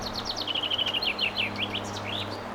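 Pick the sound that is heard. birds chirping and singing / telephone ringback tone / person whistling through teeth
birds chirping and singing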